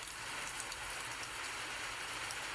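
Steady rain patters on a hard surface, a dense, even hiss of countless drops with no pauses and no voices, moderately quiet and constant throughout.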